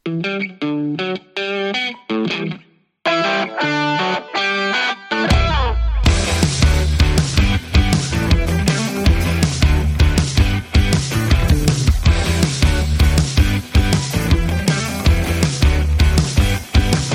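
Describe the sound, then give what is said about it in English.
A song intro by a London-based four-piece band opens with clean, effects-laden guitar notes in short phrases, then at about five seconds a loud distorted guitar and full band with drums crash in and drive steadily. “this track has received acclaim from a number of radio stations, including BBC Introducing”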